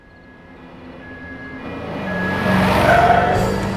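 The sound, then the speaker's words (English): A bakery delivery truck drives along with a steady engine rumble that builds louder over a few seconds, a rising whine cutting in near the end, with no voices. “My Chinese grandma never gave me lessons on how to lose cops while driving a bakery truck!”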